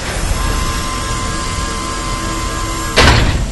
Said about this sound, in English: eased the heavy door to the chamber all the way open, allowing the rest of his party to enter.